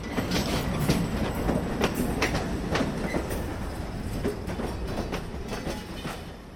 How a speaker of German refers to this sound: prüft das letzte Mal die Bremsen und macht den Zug fertig, damit er weiterfahren kann